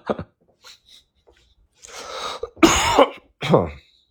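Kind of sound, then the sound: human body sound, coughing and throat clearing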